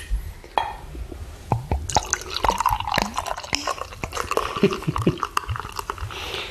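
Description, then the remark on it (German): Beer pours into a glass with gurgling splashes, little bubbly plinks and a fizzing foam rising underneath, steady for several seconds with no one talking. “Ich trinke jetzt ein Bier.”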